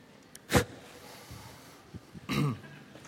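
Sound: throat clearing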